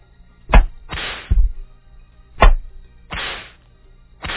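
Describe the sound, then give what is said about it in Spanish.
Whip lashes crack sharply, about four loud strikes at an uneven pace, with swishing whooshes through the air between them and no voices. “Vamos a darle un latigazo.”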